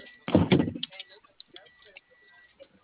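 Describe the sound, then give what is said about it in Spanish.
A door being opened: a loud double clunk in quick succession, followed by a couple of seconds of faint scattered clicks and small rattles. “Ya abrí la puerta”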